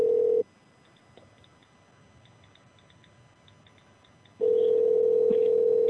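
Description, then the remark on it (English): A telephone ringing tone over the line: a steady electronic tone cuts off, followed by about four seconds of near silence with faint ticks, then the loud tone resumes. No one speaks. “This is the last number I have to try to play the game show.”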